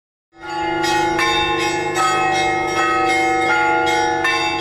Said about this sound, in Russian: Воскресное утро ноября началось со звона колоколов и божественной литургии, которую возглавили сразу два владыки – митрополит Ханты-Мансийский и Сургутский Павел и епископ Югорский и Нягонский Фотий.